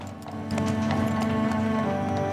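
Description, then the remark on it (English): A single horse clip-clops at a steady walking pace, hooves striking in an even rhythm as it pulls an ambulance carriage along a passageway, with a constant low hum underneath and no talking. “The ambulance is pulled along the passageway by a single horse.”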